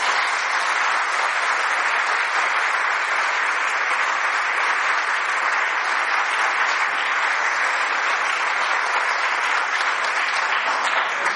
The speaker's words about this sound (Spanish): Y aquí pasamos a la segunda parte de nuestra catequesis, pero para que ustedes respiren, porque hay algunos que no están respirando, para que ustedes respiren y yo también, démosle un pequeño aplauso a Jesús.